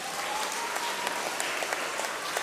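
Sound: audience applause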